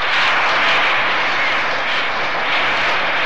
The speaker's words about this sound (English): And there were the bats banging away on the floors of Met Stadium, bat day.